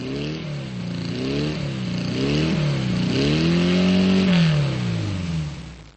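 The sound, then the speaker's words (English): A Porsche sports car engine revs repeatedly, its pitch climbing and dropping in several surges before one long, loud rise near the end. The engine is heard on its own, with no talking. “Most people would recognize a Porsche on the street, and some even the sound of a Porsche engine.”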